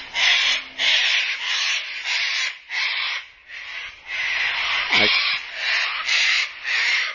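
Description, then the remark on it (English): Sulphur-crested cockatoos screech over and over, harsh raspy calls following one another in a steady, almost continuous run of about ten loud squawks, with no talking. “And so those birds you hear are sulfur-crested cockatoos.”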